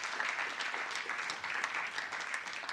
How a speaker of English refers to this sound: You go ahead and clap loud. I see one person doing like, can I clap for that? Good. Yeah, you applaud that. Absolutely.